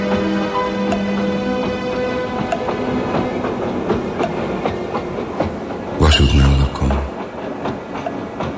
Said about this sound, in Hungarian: Sok vonat jön, megy, és ellennézem, hogy számnak fényes ablakok a lengedező sötétben.